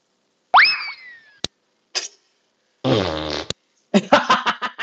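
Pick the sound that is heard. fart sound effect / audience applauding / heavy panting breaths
fart sound effect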